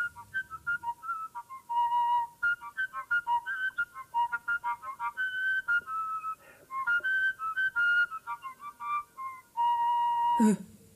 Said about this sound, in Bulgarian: Ей, каква хубава свирка си направих от бяла върба.